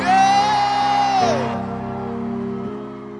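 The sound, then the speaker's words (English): A church audience at First Love Church roars and screams praise together as Bishop Dag Heward-Mills is welcomed, one loud, sustained high-pitched shriek rising above the rest for about a second before fading into the continuing noisy cheer of many voices. “Bishop Dag, Heward Mills, give the Lord a scream.”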